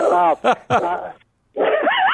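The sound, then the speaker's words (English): Dogs bark in a quick run of loud, sharp barks, pause briefly, then break into high, wavering yips and whines. No one speaks. “That's when my dogs are barking, too.”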